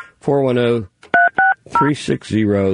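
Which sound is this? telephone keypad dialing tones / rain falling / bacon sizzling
telephone keypad dialing tones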